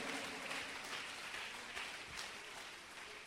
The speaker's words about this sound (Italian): Vogliamo applaudire e benedire il Signore. Alleluia.